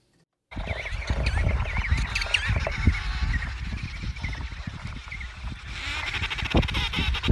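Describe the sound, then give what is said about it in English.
A crowded penguin colony in Antarctica chirps and honks nonstop, many overlapping calls, over a steady low rumble of wind and shuffling after a brief silent start. “Those are the sounds of penguins chirping in Antarctica.”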